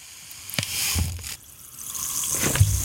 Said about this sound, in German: Ich würde erst das Wasser und dann hören, ob das Pulver da drin zischt. Aber das zischt doch. Na gut. Oder? So, nicht zu viel Wasser. Jetzt kommt das Brausepulver dazu.